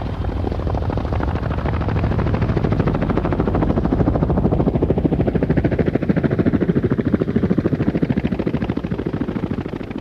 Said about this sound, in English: the turbines of the engine started to suck the CS gas inside of the chopper